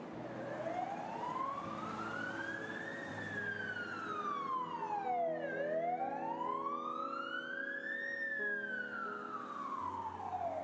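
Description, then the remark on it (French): Loud wailing sirens from police cars and fire engines arriving in front of a building rise and fall in slow sweeping cycles, layered over a low rumbling engine drone, continuous with no talking. “Quelques minutes après, des véhicules de police et de pompiers arrivent devant cet immeuble.”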